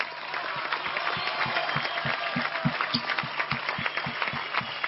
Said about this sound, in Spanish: Gracias, Horacio. Un aplauso para Horacio.